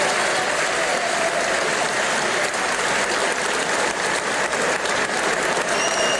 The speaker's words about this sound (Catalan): Això que sentiu va ser l'ovació que el públic del Festival de Sant Sebastià va dedicar dissabte a Nevenka Fernández després de la projecció de la pel·lícula Soy Nevenka, quan sortien entre llàgrimes de la sala